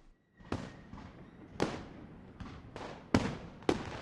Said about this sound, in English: As she spoke, a blaze of light sprang up before the windows of the palace. Fireworks crackled and guns banged